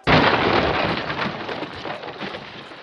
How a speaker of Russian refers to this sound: И в тот же миг пол под ней содрогнулся. Стены зашатались, а за дверью что-то с чудовищным треском и грохотом обрушилось.